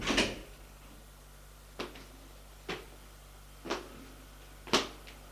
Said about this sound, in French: On le mène au bureau du président de la République. On ferme la porte derrière lui.